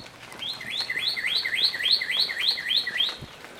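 bird singing

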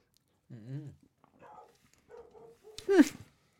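dog barking

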